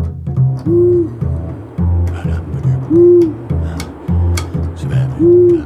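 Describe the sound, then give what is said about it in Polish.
An owl hoots in a steady repeating pattern, three low, resonant hooting phrases spaced about two seconds apart, loud, with no voices. “Są, to są puszczyki, ale nie, masz rację, są również, tylko no ciężko by było przywieźć tutaj wszystkie nasze występujące gatunki.”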